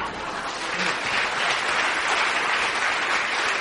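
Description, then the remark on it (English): Steady audience applause after a speech at an evening event at the LSE fills the whole stretch, a dense wash of many hands clapping at an even, fairly loud level without any talking over it. “We don't have a huge amount of time for applause.”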